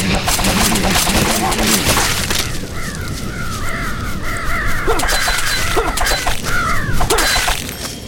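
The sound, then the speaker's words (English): Video game birds attack, letting out a rapid series of harsh, crow-like caws over several seconds, loud, layered over busy, clattering game noise. “See, they only need one hit, the birds, but they're pretty fast.”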